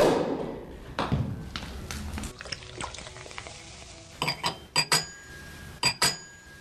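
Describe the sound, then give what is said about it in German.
Several sharp pops of sparkling wine corks ring out in quick succession, clear, over a bubbly, fizzing pour and faint clinking, with no talking. “Und da knallen schon die Sektkorken.”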